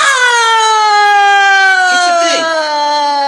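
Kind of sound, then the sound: vehicle, ambulance siren sound effect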